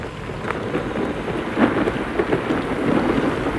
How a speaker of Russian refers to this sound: Всю ночь бушевала буря, но ничего особенного не случилось.